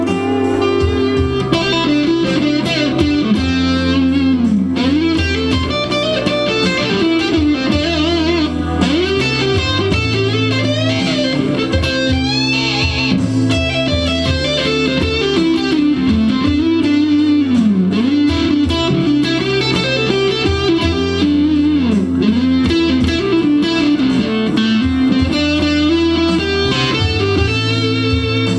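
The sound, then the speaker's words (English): A distorted electric guitar plays a flowing A minor pentatonic (C major pentatonic) lead line with a little A blues, bending and sliding between notes over a steady C / A minor chord progression backing for about half a minute, with no talking. “That was just A minor pentatonic.”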